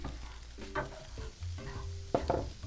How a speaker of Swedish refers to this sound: Nu är 7 olika vegoköttprodukter stekta och på väg in till smakpanelen som sitter och väntar.